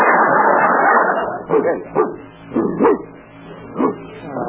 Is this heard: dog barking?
yes